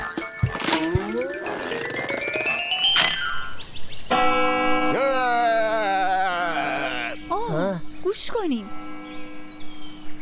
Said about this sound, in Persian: من صدای زنگوله میشنوم. روری داره صدامو میکنه تا بریم پیشش.